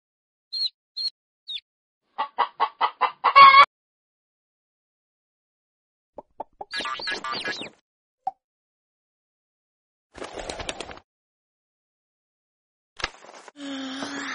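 Chickens clucking in short bursts: a few high peeps, then a quick rising run of clucks, followed by scattered cackling flurries separated by pauses. Fairly clear, with no talking.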